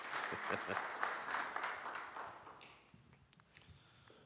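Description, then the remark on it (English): An audience at Redemption Church applauds to welcome people in, with dense, steady clapping that gradually thins and fades toward the end, with a few voices faintly mixed in. “Would you welcome them in with applause?”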